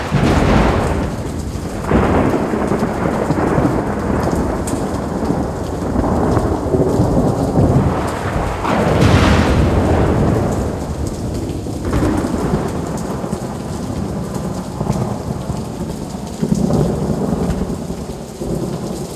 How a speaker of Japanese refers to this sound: 雨、止まないわね。